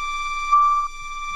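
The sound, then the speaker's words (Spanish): A steady electronic siren tone drones at a fixed pitch, swelling briefly louder in the middle before settling back to an even, continuous hum. No one speaks. “Bueno, esta sirena va para las abuelas y los abuelos.”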